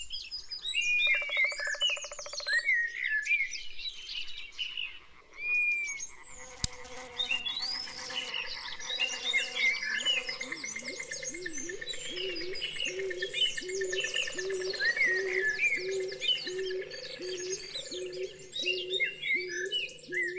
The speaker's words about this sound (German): Doch der Wald ist weit mehr. Vieles geschieht hier im Verborgenen. Hören wir einmal in den Wald hinein.